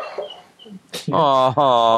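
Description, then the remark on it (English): A male dog dreaming in its sleep, with a couple of faint, high whimpers followed by two louder, drawn-out muffled woofs, otherwise quiet. “Oh, my dog's having little dreams right now. Can you hear that?”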